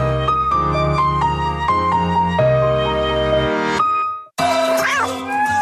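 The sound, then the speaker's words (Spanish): In an advertisement for the Laika pet supply app, a short musical jingle of sustained tones, a brief pause, then a single drawn-out cat meow that rises and falls, fairly loud, over a soft tonal backing. “No te apures, Michi. Estás a un silbido de recibir la arena que necesitas”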